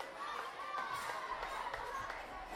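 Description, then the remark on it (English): A group of people applauds together for a boy who has just got a chant rhythm right, a dense, steady patter of clapping mixed with excited voices and a few shouts, lasting a couple of seconds. “He's got it. Give him a round of applause.”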